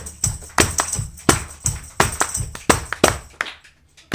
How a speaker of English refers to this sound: Clap your hands. Let me see how much rhythm you got.